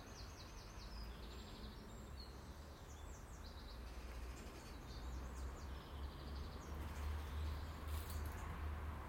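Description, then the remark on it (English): A steady low rumble of road traffic fills the background throughout, heard from a garden, with small birds chirping and twittering faintly above it. No one speaks. “And the background noises from traffic.”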